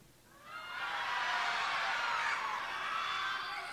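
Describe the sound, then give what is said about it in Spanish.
An audience, with the lights off, lets out a loud, sustained shout on a count of one, two, three, many voices rising together after a brief quiet start and holding a bright, dense roar for about three seconds. “A ver, un, dos, tres. Grito. Un, dos, tres. Grito.”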